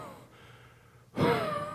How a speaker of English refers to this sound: isn't making much noise, but his breathing is heavy.